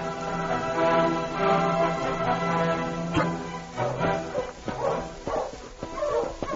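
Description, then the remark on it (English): A dog whines in long, drawn-out tones, then breaks into a series of short, sharp barks mixed with whimpers, loud, with no one talking, as it tracks a missing person back along a trail into the hills. “That dog is plumb foolish, Sergeant.”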